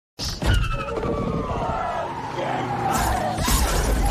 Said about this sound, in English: So what has just happened is the driver has slid out and he has crashed the car into a loader of some sort with like a forklift.